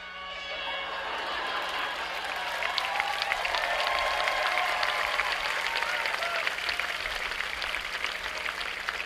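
Many air horns on boats blare together on a count of three in overlapping sustained tones, forming a loud, dissonant chord that gradually blends into a dense, crackling wash resembling clapping and crowd noise.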